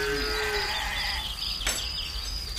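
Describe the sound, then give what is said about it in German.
Farmyard animal noises fill the scene on a farm: a sustained low animal call fades out early, over a steady bright hum of overlapping calls, with a sharp short clatter partway through. “Da geht es auf dem Bauernhof doch wesentlich geruhsamer zu. Wenn auch nicht unbedingt viel leiser.”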